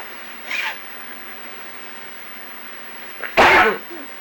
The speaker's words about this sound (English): Bless you. Mm-hmm, getting cold. You getting a cold?